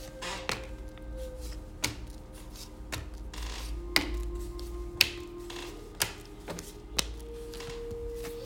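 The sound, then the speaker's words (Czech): Tarot cards being shuffled and handled for a partner reading, with sharp taps landing roughly once a second over a faint steady background hum. No one speaks. “A já už se dívám na vaši fotku, míchám u toho karty a my se spolu podíváme, co nám tarot poví o vás dvou.”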